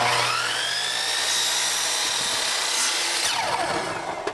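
A loud, high-pitched chop saw whines steadily with a harsh grinding edge, its pitch shifting slightly as it cuts, running continuously with no talking, as a 9-year-old leans over it in a backyard at Tinkering School.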